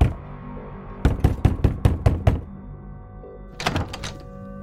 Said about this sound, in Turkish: Öğleden sonra 2 gibi evlerinin kapısı çaldı.